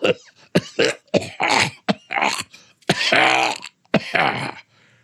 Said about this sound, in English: Oh, how long have you had that cough?